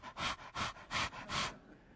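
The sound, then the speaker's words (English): A voice imitates a young man's heavy panting: five quick, breathy huffs in a steady rhythm, fairly loud, with no other sound around them. “I mean, the boy's panting.”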